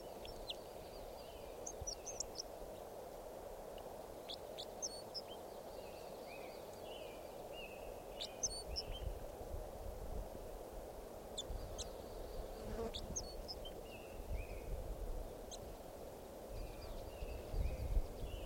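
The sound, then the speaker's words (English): Scattered short, sharp call notes of a wild Red Crossbill sound at irregular intervals, faint, over a steady low buzzing hum of insects and background noise, with no talking. “So recording that bird was just collected. He'll be number Red Crossbill number 547.”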